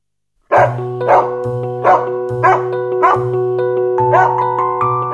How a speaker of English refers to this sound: Honey, why is Nana barking so much? Asks Mr. Darling.